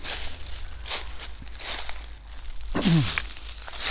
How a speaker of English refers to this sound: Stomping, stomping, stomping through the leaves.